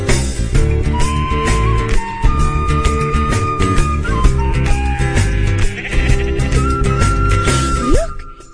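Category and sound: animal, sheep bleating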